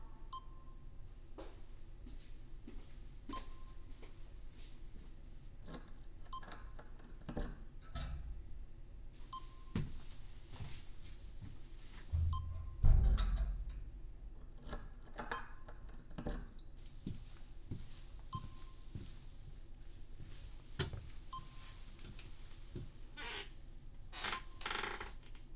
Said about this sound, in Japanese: 受刑者はビープ音が聞こえたら速やかにオナニーを開始してください。